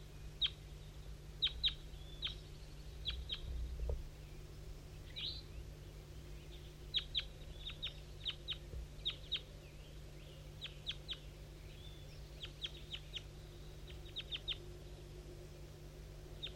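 A bird labeled 5-3 and a couple of juveniles give short, high chirps in scattered clusters, with a far-off wild bird to the southwest passing by, fairly faint over a constant low hum, with no one talking.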